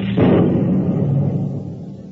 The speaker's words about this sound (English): When I was very young, I was just struck by lightning.